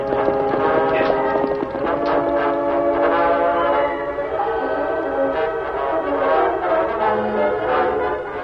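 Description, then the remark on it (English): A horse-drawn stagecoach drives off after a holdup, hooves clopping under a continuous creaking, rattling clatter of wheels that stays loud for several seconds. “All right, driver, get that stage out of here pronto.”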